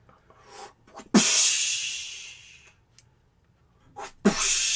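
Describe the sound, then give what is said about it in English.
Two bursts of splashing water, each starting with a sharp, loud gush that trails off into a bright, hissing spray over a second or so. Faint rustling comes before each burst, and no one speaks. “Water splashing, but it's very specific.”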